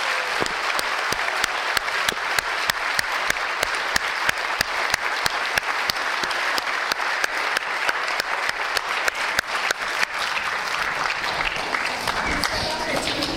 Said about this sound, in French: Je trouve que les enfants ont très bien joué la pièce de Noël. On va encore les applaudir très fort. Ça a été formidable.